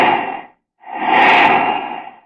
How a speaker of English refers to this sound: Then comes flight time and the sound of planes, great multimotor giants. And the whoosh, whoosh, whoosh as you watch the jets go by.